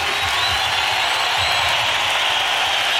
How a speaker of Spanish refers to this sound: Que se oiga un aplauso para el maestro Eduardo Díaz Muñoz, que está dirigiendo la Sinfónica FM.